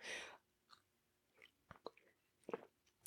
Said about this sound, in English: Sip. There you go. My voice is waking up finally.